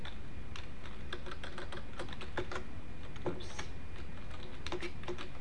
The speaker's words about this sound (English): Search? Yeah, I'm typing.